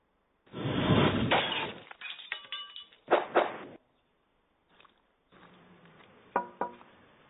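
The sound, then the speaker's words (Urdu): Glass objects, including red and green glass, a glass bulb, glass plates, glass props, a glass jug and a drinking glass, shatter in a series of loud crashes: a big initial smash, then shorter breaks, a faint clink, and a final stretch of tinkling, ringing shards. “Red اور green شیشہ، شیشے کا بلب، کانچ کی پلیٹیں، شیشے کے پروپس، شیشے کا جگ، شیشے کا سامان اور شیشے کا گلاس۔ یہ شیشے کا سامان لیے آج میں حاضر ہوا ہوں۔”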